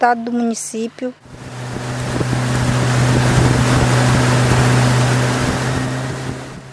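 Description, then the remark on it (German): A brief voice speaks at the start, then a motorboat's steady engine drone takes over, loud, with rushing water and wind noise as the boat of an indigenous organization moves along the Rio Negro in Brazil, carrying food parcels. “Mit dem Boot der indigenen Organisation Copimi geht es weiter auf dem Rio Negro.”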